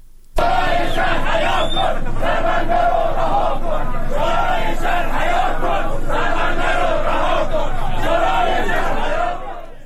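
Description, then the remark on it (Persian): A large crowd of protesters in Bandar Imam chants together on a Thursday night in loud, steady rhythmic waves, many voices rising and falling in unison for nearly ten seconds without a break. “وبسایت عصر جنوب فیلمی از اعتراض پنجشنبه شب شماری از مردم بندر امام منتشر کرد.”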